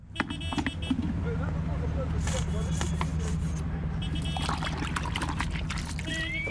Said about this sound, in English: squeezes dishwashing liquid into a bucket of drain water and uses it to clean a taxi.